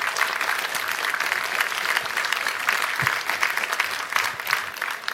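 An audience claps steadily for about five seconds, a dense, even patter of many hands with no break, fairly loud throughout and with no talking over it.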